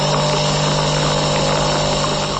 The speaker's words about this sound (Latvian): Tas skan mūsu iepriekšējais kafijas automāts.